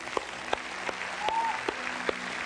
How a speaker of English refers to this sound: Let's give God a hand clap, huh?